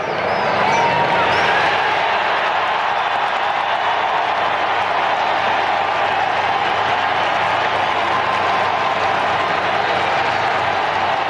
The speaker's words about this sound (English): That is the moment that Pope Leo the 14th stepped out onto the balcony at the Vatican and how the crowd reacted. It was chillingly wild.